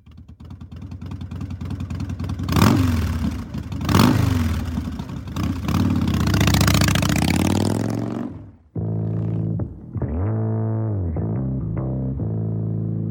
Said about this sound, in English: It was ingrained within me to be afraid of motorcycles now. I was really afraid of the sound of a motorcycle.